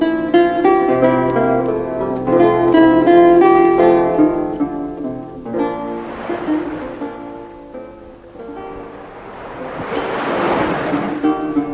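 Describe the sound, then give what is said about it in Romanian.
Waves crash onto a rocky shore in two big swells, each rushing in and hissing back out, following a stretch of sustained tonal music; loud. “Acolo unde valurile bat în spume malul dur, acolo unde apa stă să macine granitul”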